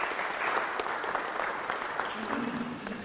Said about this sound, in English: Let's give them a clap because they did well, didn't they? Thank you.